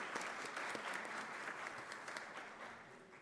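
Sustained applause from an audience, a dense wash of many hands clapping at steady volume that gradually eases off toward the end.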